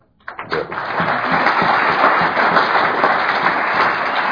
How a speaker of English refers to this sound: Thank you. You're clapping for yourself.